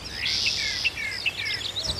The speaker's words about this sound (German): Zwitschernde Vögel. Ein rauschendes Bächlein. Blätternde Blätter.